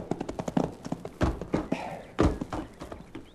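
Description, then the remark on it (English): Horse hooves clip-clop in a quick, tight rhythm that slows, ending in a few heavier thuds as the rider reins up the horse and it comes to a stop. “All you're going to do is rein up your horse, climb off, and go with me.”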